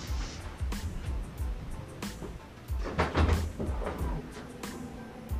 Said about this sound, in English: Sorry, I had to open the door real quick.